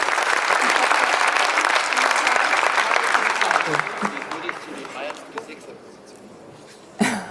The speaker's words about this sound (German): Also dieser junge Mann hat mitgemacht und der kriegt einen großen Applaus dafür.